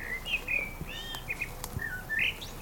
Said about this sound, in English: Yeah, I like the countryside, listening to birds, smelling the fresh air.